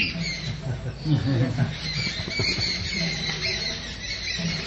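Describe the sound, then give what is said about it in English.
A dense chorus of chirping parrots and other birds in the Vrindavan forest fills the air, shrill squawks and tweets overlapping continuously at moderate loudness, with a low murmur underneath throughout. “As he toured the Vrindavan forest, he heard the chirping of parrots and other birds.”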